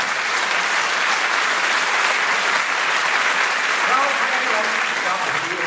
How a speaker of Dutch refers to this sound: Dames en heren, geef haar een applaus.